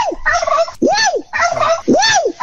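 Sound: turkey gobbling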